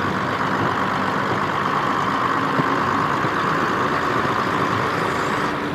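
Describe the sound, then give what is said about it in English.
A locomotive engine kicks in and labours uphill after crossing a viaduct, in a loud, steady rumble with a broad roaring drone that holds constant throughout, and no one speaks. “You can hear the engine kicking in now because we're back uphill again.”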